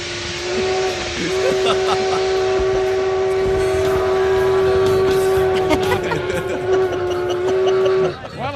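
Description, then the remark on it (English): A steam train whistle blows one long, steady, loud tone for about seven seconds, with hissing steam and rumbling train noise underneath, fading out near the end. “There's a train song.”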